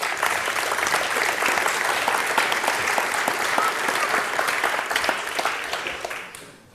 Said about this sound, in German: Einmal einen herzlichen Applaus für unsere Referenten.